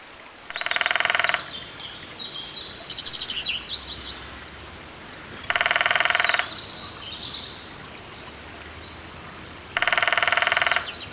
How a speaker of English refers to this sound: I'll bring up a recording I have of the lesser-spotted woodpecker so people can hear it. And I seem to remember that although lesser, they have a longer drill than the greater. Is that right? Yep, and both male and female will duet drum together.